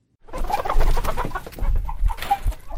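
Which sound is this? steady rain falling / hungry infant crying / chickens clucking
chickens clucking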